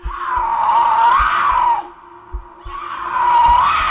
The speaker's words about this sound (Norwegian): Lyden kommer ikke nærmere. Men det hørtes akkurat ut som en puma eller et annet stort kattedyr.